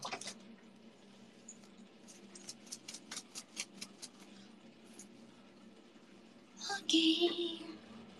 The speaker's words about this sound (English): Okay. I'm gonna mute for a while because it's gonna, the water is, I don't know. Can you hear the water?